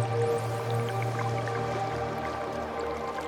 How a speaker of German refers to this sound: Du nimmst nun das Plätschern des Wasserfalls wahr und möchtest unbedingt dorthin. Also schwimmst du drauf zu. Siehst, wie das Wasser von oben herab in den See plätschert.